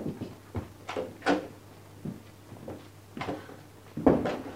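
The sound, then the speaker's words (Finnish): A door is opened by Cinderella for someone behind it, with a string of wooden clunks, rattles and thumps spread irregularly across the moment, over a faint steady low hum and no voices. “Tuhkimo, avaa ovi ensin.”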